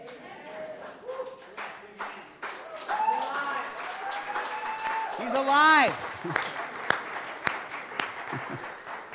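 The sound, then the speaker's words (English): An audience claps in scattered, uneven bursts for several seconds, while voices call out and cheer, one rising in a high, wavering whoop midway through. “So, you know how I feel about these kind of claps, so.”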